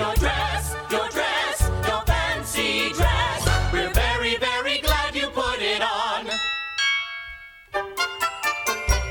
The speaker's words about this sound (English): Wedding bells will ring, wedding bells will chime. Madam, you're the hostess and it's happy wedding time. Wedding bells will ding, wedding bells will gong. Wedding bells will ding-a-ling and we will ding along.